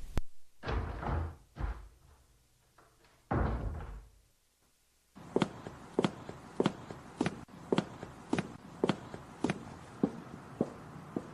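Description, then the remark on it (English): After a few muffled thuds and rumbles, footsteps come down a hallway: sharp, evenly paced clicks on a hard floor, about two per second, steady; a woman coming home down the hall in the evening. “That's Jennifer coming down the hall. I hear that every evening when she comes home.”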